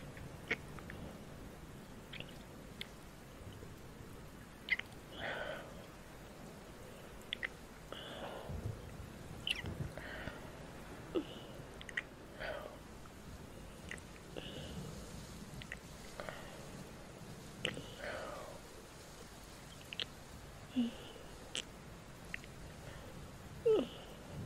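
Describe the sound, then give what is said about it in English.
Wet licking and smacking noises from a dog licking and kissing a person, coming in quick irregular bursts over a quiet background, with no one talking. “Why are you kissing me, dog?”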